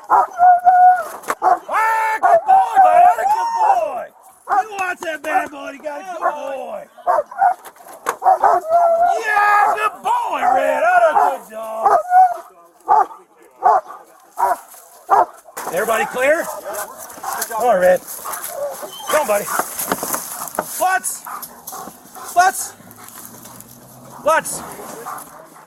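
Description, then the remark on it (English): A police dog named Red barks and yelps excitedly in loud, repeated bursts as it finds a hiding suspect and latches onto his leg, mixed with men's raised voices and some rustling and scuffling toward the end. “That's a good dog, Red.”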